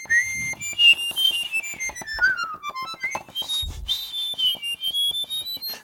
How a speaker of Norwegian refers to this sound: Den i hunderegistret. Og det som gøy med det at du kan for eksempel plystre samtidig med det her, det høres ut som to som plystrer samtidig, og det kan jo være artig det da.